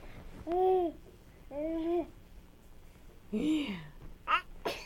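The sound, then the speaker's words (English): A small child babbles and coos in several drawn-out vocal bursts, then gives a quick, sharp little sneeze near the end, fairly soft. “Bless you.”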